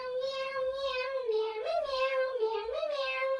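A cat gives one long, drawn-out meow lasting several seconds, its pitch wavering up and down like a plaintive yowl. It is fairly loud, with no other sounds.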